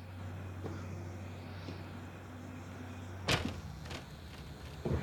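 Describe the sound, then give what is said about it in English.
A steaming Mustang idles with a low steady hum at the foot of steps at a building entrance, then a door opens with a sharp clunk as a man gets out and the engine noise drops away; another door thud follows near the end. “Nick gets out of the steaming Mustang, shotgun at the ready, and lumbers up the steep steps two at a time”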